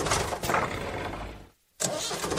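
A tractor engine cranks and rumbles loudly, cuts out for a brief moment, then roars back to life with a rough, steady clatter.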